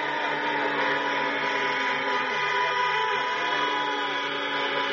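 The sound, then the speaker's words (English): Many car horns honk at once at a Joe Biden drive-in rally in Pittsburgh, a loud, unbroken chorus whose overlapping tones blend into a steady blaring drone for the whole stretch, with no talking. “At a drive-in rally in Pittsburgh, Joe Biden says President Trump isn't honest about helping black Americans.”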